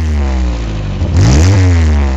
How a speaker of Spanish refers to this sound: Y luego ya, bueno, pues tenemos los típicos de ruidos de que podemos tener por el tema de los escapes, que resumen, que se perforan y tal.